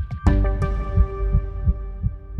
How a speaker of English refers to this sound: We started to think the turn signal is really like the heartbeat of the vehicle. It's one of the only sounds that has like a consistent pace to it.